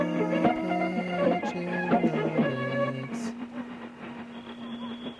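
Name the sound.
whistle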